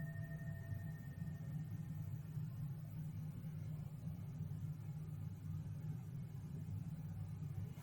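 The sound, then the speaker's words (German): A motorcycle engine rumbles low and steady as it drives past, a muffled drone that holds at a constant level throughout without any voices. “Ich mache das mit der Stabilität noch einmal, weil eben ein Motorrad vorbeigefahren ist.”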